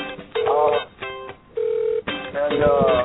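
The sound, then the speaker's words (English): A telephone rings with an incoming call, a steady electronic ring tone repeating in short bursts, with voices talking over parts of it. “actually, it sounds like you have a phone call coming in,”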